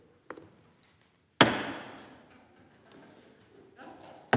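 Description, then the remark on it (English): A light knock, then one heavy, booming thump on a wooden pulpit that rings and slowly fades, followed by faint murmuring and a final sharp knock. “I want to start by pounding the pulpit.”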